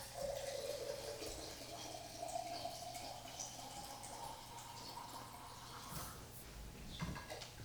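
A drink is poured steadily and served straight, without ice, a continuous splashing gurgle whose pitch slowly climbs as the glass fills over several seconds, with no one speaking.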